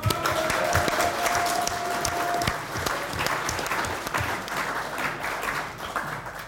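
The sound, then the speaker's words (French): An audience at an association meeting bursts into sustained applause in tribute to an absent member during the moral report, a dense, steady wash of many hands clapping at once that holds loud for several seconds before thinning slightly toward the end. “Donc même si elle n'est pas là, on peut quand même l'applaudir.”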